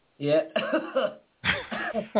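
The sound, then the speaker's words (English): An electronic cigarette's automatic cough sound: two rough, voiced coughing bursts separated by a brief pause, fairly loud with a thin, tinny quality and no speech over them. “Oh, an automatic cough as well. That's really clever.”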